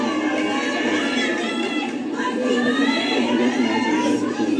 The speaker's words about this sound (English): This collaboration of so many dance groups on campus made for some very excited crowds, specifically at Saturday night's 10 p.m. show.